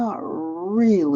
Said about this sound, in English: We've had our dog for 14 years. So that's my dog. So he still comes and talks to me and tells me like when he wants to eat or whatever.